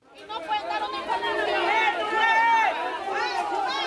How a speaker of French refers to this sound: Les cris de protestation de familles de détenus devant la grille de la prison de Bella Vista. On est là, en Équateur, à 100 de kilomètres de Quito.